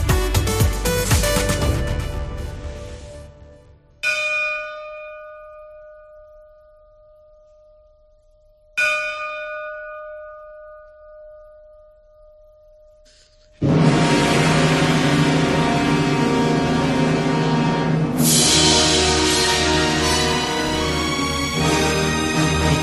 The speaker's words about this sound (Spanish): mítica banda sonora de la peli Por quien doblan las campanas.